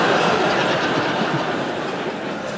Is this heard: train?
yes